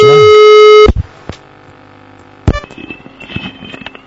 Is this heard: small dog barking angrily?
no